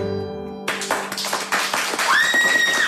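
A sustained sung note cuts off and a crowd bursts into loud, dense clapping after an audience singalong, continuing steadily, with a high whistle rising above the applause toward the end.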